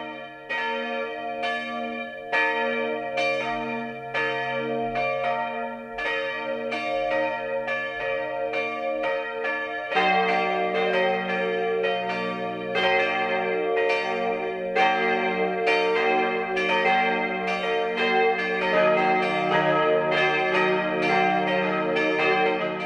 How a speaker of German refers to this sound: Es ist 12 Uhr. Das Mittagsläuten kommt heute aus St. Leonhard am Wonneberg.